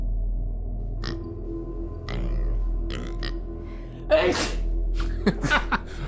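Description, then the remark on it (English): A sharp sneeze bursts out after a few quiet seconds, followed by a couple of shorter snorting sniffs over a steady low background hum. “please cover your mouth when you sneeze.”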